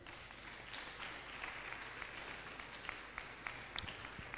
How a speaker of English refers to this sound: Don't stop clapping. Don't stop clapping. It's good exercise.